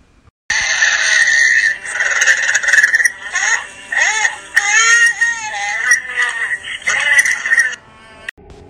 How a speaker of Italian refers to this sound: Come avete potuto ascoltare, si tratta principalmente di quelli che sembrano lamenti di dolore e urla soffocate, a cui seguono alcuni minuti di silenzio e infine una voce,